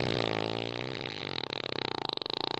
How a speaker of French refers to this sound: Elle se faufila sur la pointe des pattes, le ventre serré par la peur, et c'est là qu'elle fit le plus gros prout de toute sa vie.